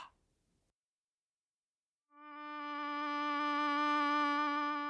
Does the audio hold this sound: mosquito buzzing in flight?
yes